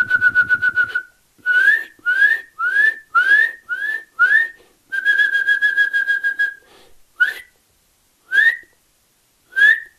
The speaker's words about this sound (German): Sein Gesang besteht nämlich auch aus seinen Rufen. Ihr müsst genau hinhören, wie ist die Art und Weise, wie er seine Rufe aneinanderreiht und wie er sie vorträgt. Und wenn ihr da euer Ohr schult, Kleiber in eurer Nähe hat, diese üb, üb, üb, üb.